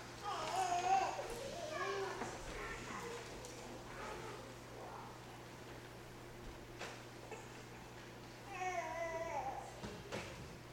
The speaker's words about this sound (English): Lord, we are reminded that out of the mouths of babes and infants, you bring perfect praise. It is a delight to hear the voices of children.